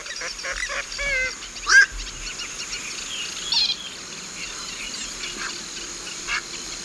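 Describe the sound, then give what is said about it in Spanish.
A moorhen gives sharp, abrupt calls, with the loudest burst near the middle, over a steady background of insect buzz and other faint bird sounds in a lagoon amid rice fields at the Ullal de Valdoví. “Polla de agua, sí, la polla de agua.”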